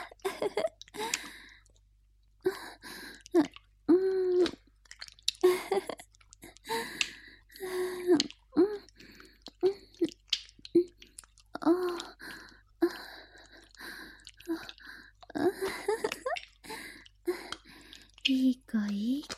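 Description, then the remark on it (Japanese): Wet sucking and slurping noises come in quick repeated bursts, mixed with breathy vocal sounds and soft moans that seem to imitate eager drinking from a breast. “チューチューって音が聞こえてくるわ。すごい勢い。”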